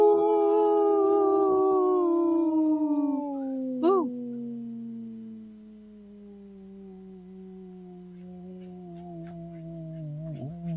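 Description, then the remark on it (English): A person lets out one long, unbroken wolf-like howl in a single long breath, loud, its steady tone sliding slowly downward in pitch over about ten seconds, with no other sounds around it. “Very strong, healthy wolf right there. That was a long breath.”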